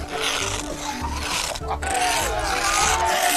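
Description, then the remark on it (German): Steel wool, used to wash people's cars, scratches across the car paint in a harsh, steady rasping scrub that stays loud for about three seconds, with faint squeaky tones rising within the grinding noise. “Sie haben den Stahlschwamm genommen und die Autos zerkratzt, Herr Merz.”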